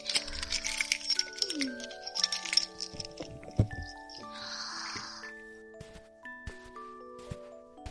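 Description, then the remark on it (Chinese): Keys jingle and clink in a series of short metallic rattles, followed by scraping and clicking as a door lock is unlocked with the keys, over a faint steady tonal hum. “还好我带了钥匙。”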